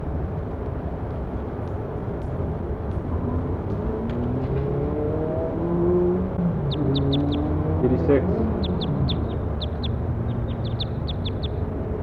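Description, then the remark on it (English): A bird calls with a quick series of short, high chirps in the second half, repeated in little bursts over a steady, noisy background rumble with faint murmuring voices. “Start recording, bird.”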